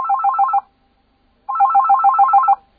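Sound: telephone ringing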